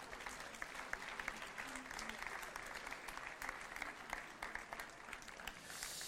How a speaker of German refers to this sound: Sie dürfen klatschen, wenn Sie wollen. Danke.